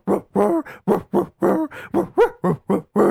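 A string of about a dozen short, pitched barks from dogs barking the tune of Jingle Bells in a bouncy, melodic rhythm, fairly loud with no talking.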